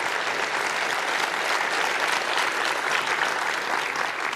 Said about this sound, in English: And again, please give them a big hand of applause for supporting this competition.